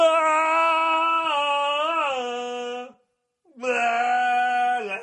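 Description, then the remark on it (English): A single voice imitates the Tomahawk chop chant, holding a loud, wordless droning "oh" with small pitch dips, then breaking briefly and repeating the same sustained tone. “they played that fucking what do you call it? The Tomahawk chant song?”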